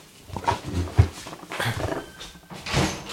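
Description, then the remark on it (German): A dog named Lola makes a few short, scattered noises in the background, with soft bumps mixed in and no talking. “Der Hund.”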